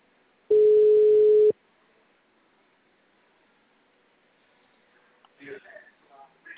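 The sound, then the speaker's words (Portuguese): A single loud, steady telephone ringing tone of an unanswered phone call, lasting about a second, followed by a long pause of quiet line hiss, then faint voice-like sounds near the end. “Cara, esse povo não atende telefone, não.”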